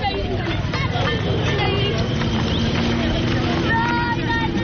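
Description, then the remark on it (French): A busy port on the bank of the Niger River at Gao, eastern Mali: a steady crowd of voices chattering over the drone of boat motors where hundreds of pinasses wait, with scattered clattering of donkey carts and hooves mixed into the constant hubbub. “Des ânes, des charrettes, des bidons d'eau, beaucoup de motos au Mali.”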